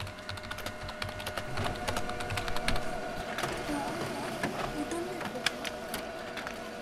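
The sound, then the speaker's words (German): Rapid, irregular clicking of keys on a PC keyboard, fairly loud, continuing steadily for several seconds over a low background hum, as someone checks and works through emails in the morning at a school. “Und natürlich die Tastatur am PC, weil ich morgens erstmal meine Mails abrufe und dann versuche, so viel wie möglich schon morgens zu bearbeiten.”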